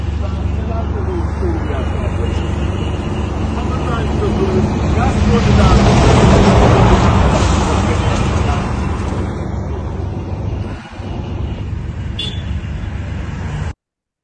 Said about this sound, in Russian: Видео с верхнего ВАЗа. 14:50 по Москве. Пробка перед российской границей в сторону Грузии.